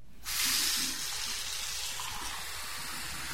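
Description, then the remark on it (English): A hotel room bathroom tap in Bogota is turned on and water gushes out in a steady, hissing stream, loudest at first and then settling to an even flow for a few seconds, with no voices. “Jose Yunus Mubarak, the country director for the Nature Conservancy, assured me that the water in Bogota these days is so clean and clear that you can drink it right out of the tap.”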